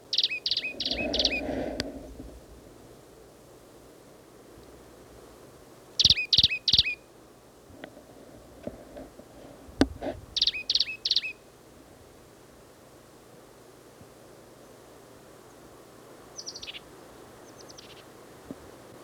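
A plain titmouse, sitting in the top of a scrubby oak at least 40 feet from the recordist, calls in short bursts of high, rapid, buzzy notes, repeated in three clear phrases with pauses between, then a fainter final phrase. No one speaks.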